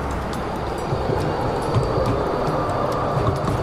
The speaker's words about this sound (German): Jetzt kommt gerade eine Straßenbahn hinter mir.